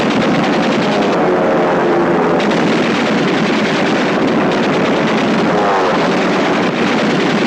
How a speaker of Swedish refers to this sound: Tyska flygplan anfaller de framryckande finnarna med kulsprute eld och striden tilltar i ursinne.